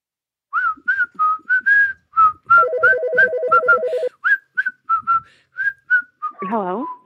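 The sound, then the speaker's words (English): A person whistles a lively, tuneful melody of short chirpy notes, clear, with a steady electronic beeping tone sounding briefly underneath partway through and a sliding warble at the end. “Just trying to get my daily whistle quotient going.”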